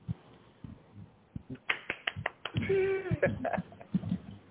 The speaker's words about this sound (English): Where's my hand clap? Yeah, you got my hand clap. You had to get them sound effects, because pieces like that deserve the fanfare that goes with it, the thumbs up,